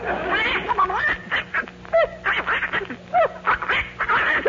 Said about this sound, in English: Go ahead, …. See? That's a happy duck. That's an angry duck. That's an unhappy duck.